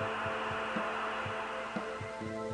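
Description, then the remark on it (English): A dial-up modem connecting so Siri can contact the network, a steady harsh static hiss layered with buzzing electronic tones and a low throb pulsing about twice a second, fairly loud with no voices. “Now, the answer takes longer because Siri needs to contact the network using a modem.”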